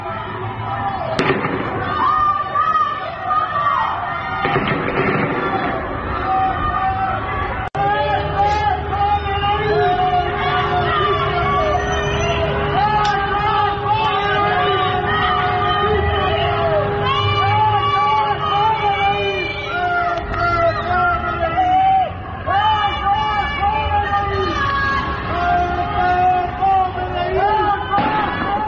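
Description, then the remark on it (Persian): Prisoners on a prison rooftop shout and chant together in a loud, continuous crowd roar, with sharp bangs and cracks bursting through at intervals over the din. “به یکی از همین صداها با هم گوش کنیم. شما میبینین زندانی ها رو پشت بومه، همه معلومه.”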